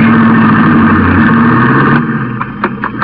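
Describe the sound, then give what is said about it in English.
A car drives along the ocean as fog clears, its steady, loud engine droning, the hum easing slightly near the end, where a few faint clicks and bumps break through the rumble. “As we drove along the ocean, the fog cleared up rapidly.”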